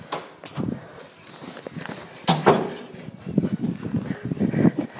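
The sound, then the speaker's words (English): Double doors swing open and shut with a sharp bang partway through as people hurry through them, amid hurried footsteps and clattering movement, with faint murmuring in the background. “Through the double doors and into the first door on the right.”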